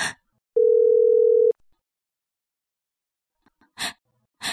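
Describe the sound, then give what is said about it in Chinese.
A single steady electronic telephone tone sounds for about a second, a call to the emperor ringing with no answer, then silence, followed by a couple of soft breathy sighs. “你总不接电话”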